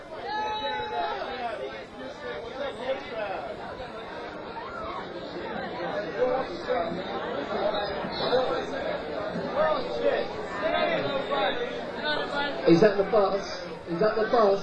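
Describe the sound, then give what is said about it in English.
Dense, overlapping chatter from a rowdy crowd of people continues throughout, a busy restaurant hubbub with voices rising a little louder toward the end. “I hope we haven't disturbed your meal, this rowdy crowd here.”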